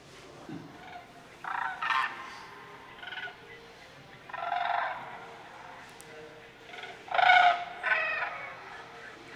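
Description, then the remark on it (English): Rolling, bugling calls of migrating sandhill cranes come in several separate bursts, some short and some drawn out, from a few birds flying overhead too high to see clearly, with no talking. “Usually it comes from a few birds too high to see clearly.”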